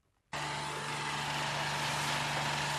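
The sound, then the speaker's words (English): A water bore drilling rig on a farm in the Bega Valley starts up abruptly and runs loud, drilling a bore in search of water during a drought: a steady roaring engine with a constant mechanical hum and a low drone. No one speaks. “But one farmer in the Bega Valley is now drilling a bore with the hopes of finding enough water not only to make it through this drought, but also future dry spells.”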